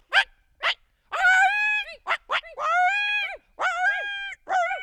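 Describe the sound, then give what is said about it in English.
Two people's voices imitate a coyote chorus: a few sharp yips, then wavering, pitch-bending howls that rise and fall in overlapping bursts, loud, with brief gaps between calls. “If you're guessing coyote, you're right.”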